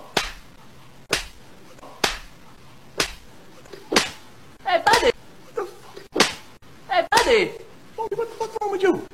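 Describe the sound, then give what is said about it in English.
Loud, sharp slaps crack out in a steady series, roughly one per second, forceful, with brief vocal sounds mixed in between the later hits. “That was a very intense slapping moment.”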